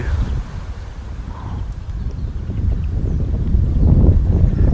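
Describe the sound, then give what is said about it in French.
Outdoor wind rumbles steadily, buffeting the microphone with a deep, continuous roar that gusts louder toward the end. No clear voices stand out. “Non, bouge pas, il y a du vent.”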